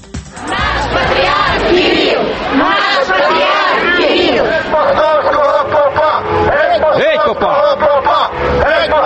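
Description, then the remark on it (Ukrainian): Crowds of supporters and opponents shout and chant loudly as they meet the head of the Russian Orthodox Church on his visit to Ukraine, many voices overlapping in a continuous roar of rising and falling cries with no pauses. “Практично в усіх містах, куди приїздив предстоятель Російської православної церкви, його зустрічали дві юрби людей – прихильників та противників.”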